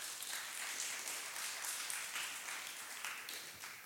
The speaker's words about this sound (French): Merci à vous. Déjà, vous pouvez les applaudir pour leur présence.